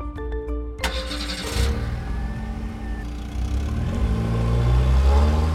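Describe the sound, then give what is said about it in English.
A car engine cranks with a short clatter, catches, and revs up, then settles into a steady, growing rumble as the inspector's car pulls away toward the house of Count de Gev, loud with no talking. “The inspector and the student were on their way to the house of Count de Gev when a fisherman ran in front of his car, waving his hands.”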